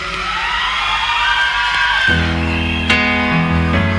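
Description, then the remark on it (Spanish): Harsh, shrieking screams ring out loud in a recorded cover version of a song, then give way after a couple of seconds to a sustained, heavy band chord with ringing instrumental tones. “A los chillidos.”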